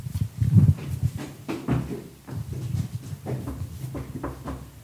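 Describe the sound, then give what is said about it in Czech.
A series of dull knocks on a door, irregular, with low thudding resonance between the taps and no voices. “Ťukáme teď na dveře, snad nám někdo otevře.”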